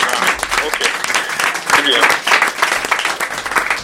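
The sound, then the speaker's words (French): Steady applause from a studio audience, a dense patter of many hands clapping for several seconds, with no voices rising above it. “nous sommes à Europa et on vous applaudit”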